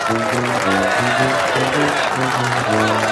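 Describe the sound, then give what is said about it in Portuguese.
Steady, dense applause fills the whole stretch at an even loudness, with voices cheering and calling out over the clapping. “Aê, palmas pra ela, aê.”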